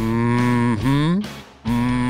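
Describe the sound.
A voice imitates a cow, letting out a loud, sustained low moo that bends in pitch, breaks briefly, then resumes in a second drawn-out lowing call.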